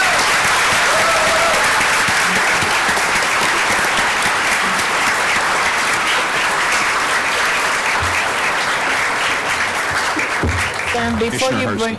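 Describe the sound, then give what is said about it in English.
Sustained, dense applause from a large audience for a panel's work, loud and steady for the whole stretch, with a few faint voices surfacing near the end as the clapping continues. “So I think at that point, I'd say thank you all, and I'd just give a big round of applause for all the phenomenal work you all will be doing.”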